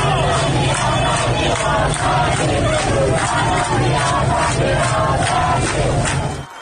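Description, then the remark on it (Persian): A large crowd of protesters in the streets of Borujerd, Lorestan province, chants loudly and steadily, voices rising together in repeated rhythmic bursts, with shouts carrying over a dense, continuous roar of many people. “همزمان با این مراسم در برخی از شهرهای استان لرستان هم معترضان به خیابان‌ها آمده بودند.”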